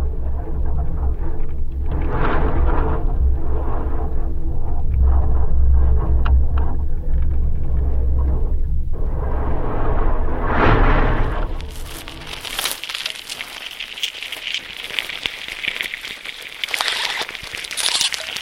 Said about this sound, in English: So this is a cholla cactus with a contact microphone attached to it on a windy day, and you're hearing the wind sort of whistling through the holes in this dead cactus.